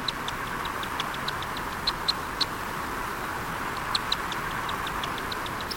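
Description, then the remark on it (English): A black swift, North America's largest swift with a wingspan of a foot and a half, gives a steady run of sharp, high chipping calls, with brief pauses between short bursts, set against a constant rushing roar like falling water. No one speaks. “the black swift has a foot and a half wingspan that makes it North America's largest swift.”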